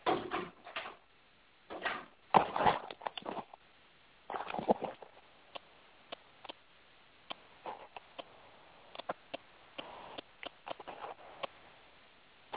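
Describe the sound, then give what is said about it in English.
A pet dog barks in three short, rough bursts over the first five seconds, then goes quiet apart from scattered sharp clicks and taps. No one speaks. “All I heard was barking, and he was gone.”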